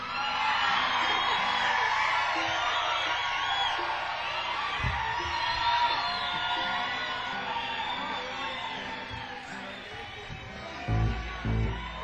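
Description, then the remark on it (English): A large crowd welcoming a performer roars with sustained cheering, whoops and yells over steady applause, loud and continuous for the whole stretch, with a couple of louder low thumps near the end. “He's here, really, folks. Keep clapping.”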